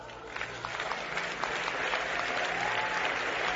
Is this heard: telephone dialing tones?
no